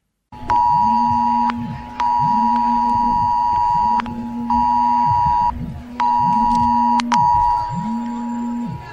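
A loud mobile phone emergency alert tone blares in repeated harsh on-off bursts about a second long, while a lower, wavering siren-like swoop cycles steadily underneath, as phones sound in Sant Andreu de la Barca during a chemical-risk emergency drill.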